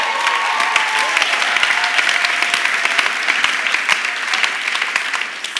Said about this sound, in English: Come on, we just ought to clap a little bit and change the environment.